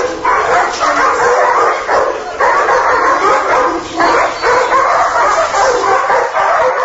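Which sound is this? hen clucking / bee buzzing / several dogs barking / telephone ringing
several dogs barking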